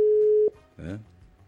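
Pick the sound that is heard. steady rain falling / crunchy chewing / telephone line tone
telephone line tone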